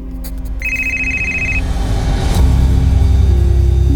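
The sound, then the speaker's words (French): A woman's telephone rings with a bright, steady electronic tone for about a second while she sits in an armchair reading a script, over a continuous low engine-like rumble that grows louder and heavier toward the end. “Munie d'un crayon à papier, elle griffonne quelques annotations sur les pages quand son téléphone sonne.”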